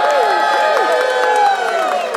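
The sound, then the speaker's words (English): A church audience at a sermon shouts and whoops together in loud, sustained enthusiastic praise to God on a count of three, many overlapping high-pitched cries blending into one continuous roar, steady for the whole moment without a pause. “And so when I say 1, 2, 3, we're going to say Shabbat, and then we're all going to let out our biggest enthusiastic praise to God.”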